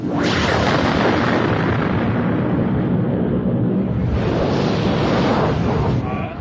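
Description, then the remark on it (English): A loud, continuous hissing roar of a curl of flame rolling past overhead, contained by a repulsor field about 2 meters up, with deep rumbling underneath and a bright hiss that swells again partway through before easing off at the end. No voices. “A hissing curl of flame rolled past directly above them, like a flaming snake.”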